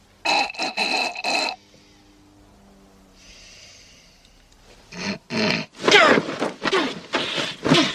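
Loud, raspy throat clearing and harsh sinus snorting from a man lying down, clearing his throat and sinuses, come in repeated bursts, a brief quieter stretch in the middle, then a longer run of rough, grunting snorts. No one speaks.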